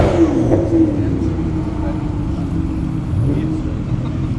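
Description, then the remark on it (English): Powerful car engines rumble and rev continuously as a procession of supercars in a supercar rally, including Ferraris and Bentleys, passes by, a loud, steady low roar with indistinct voices murmuring underneath. “I was going to say, I don't know how exciting this is really going to be, because there's just a lot of car noises going past, but there's a whole procession of additional Ferraris and Bentleys and the like.”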